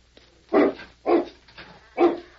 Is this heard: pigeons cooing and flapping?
no